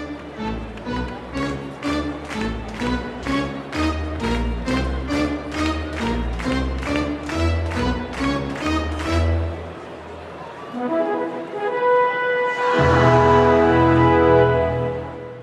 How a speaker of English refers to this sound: These days, that fanfare is commonly played on the organ at hockey and baseball games. It usually starts with an ascending intro that ramps up into the main melody. Here's organist Nancy B. Heffley playing it at Dodger Stadium.